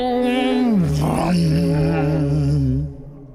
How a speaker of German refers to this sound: dröhnte das Cello